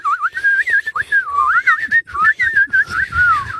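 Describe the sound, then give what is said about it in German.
A person whistles a continuous, wavering melody, the pitch sliding and warbling up and down with brief breaks, loud and alone without any talking. “Manchmal kommt auch so ein Loriot-artiges, ganz gemeines, ordinäres Pfeifen”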